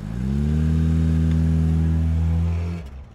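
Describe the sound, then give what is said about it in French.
A car's combustion engine roars loudly, holding a steady, throaty rev for nearly three seconds before cutting off abruptly. No voices are heard. “une fois libéré du grondement mécanique des moteurs thermiques”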